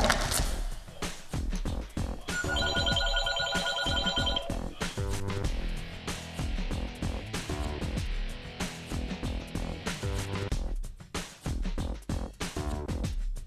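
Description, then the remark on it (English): A telephone bell trills in one rapid, rattling burst of about two seconds, clear and fairly loud over a busy, continuous musical background. “Ah, phone call.”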